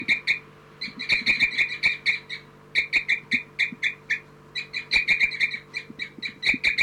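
Bird 4-3 gives a tubing call at the nest in the 4-3/3-3 cell: rapid bursts of short, high-pitched chirps repeated in quick rhythmic runs with brief pauses between, over a steady low hum.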